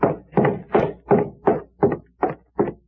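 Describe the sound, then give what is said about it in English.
A steady series of eight firm knocks on a wooden door, evenly spaced, each a dull thud with no voices in between. “I'll sneak over and see who's at the door.”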